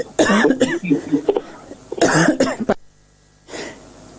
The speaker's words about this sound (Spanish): espera que quiero toser.